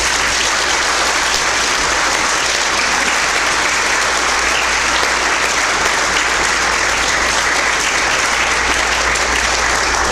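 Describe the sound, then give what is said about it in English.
Sustained applause from an audience for the speakers at an evening program, a dense, steady patter of many hands clapping at once, loud, continuing without a break and with no voices rising above it. “All right, let's give our speakers a round of applause.”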